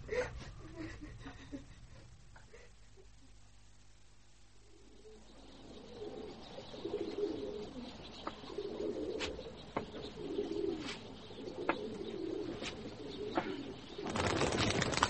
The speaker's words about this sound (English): My birds.